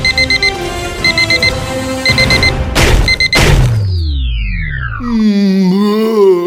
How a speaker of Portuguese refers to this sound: Pois xa é hora de despertar. Menos mal que puxen o despertador.